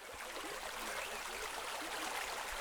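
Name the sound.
flowing river stream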